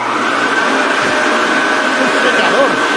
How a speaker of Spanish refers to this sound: Ferrari. Ferrari, escuchamos al SF15T de Vettel.